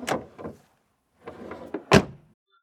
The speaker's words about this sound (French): Alors, il sort de la voiture en claquant fort la portière et marche d'un pas décidé vers la maison.